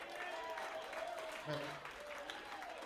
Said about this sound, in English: What's up, Seattle? I see we done lost a couple, but we got some true soldiers out here. Give yourself a round of applause real quick.